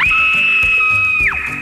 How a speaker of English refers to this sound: Instead, she hears … let out a loud scream.